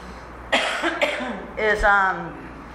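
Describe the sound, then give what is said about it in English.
A person coughs: two sharp, raspy bursts about half a second apart, then a longer, throaty, voiced cough or throat-clearing sound that trails off. “I'm sorry, I'm probably going to cough.”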